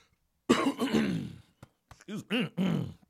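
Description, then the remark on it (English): A man wearing headphones clears his throat with a long, rough rasp, followed by a few shorter guttural grunts and hums, loud and alone with no talking. “Yeah, these goddamn headphones are going to pick up that sound off me. Clear my throat. Let me clear my throat.”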